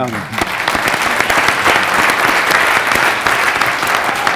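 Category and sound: crowd, audience round of applause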